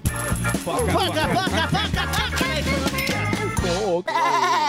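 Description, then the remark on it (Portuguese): A goat bleat sound effect used as a time-check jingle at 12:42, loud, a run of quavering cries over a thumping rhythmic backing, followed after a brief break by one longer, wavering bleat. “Hora certa do bodinho.”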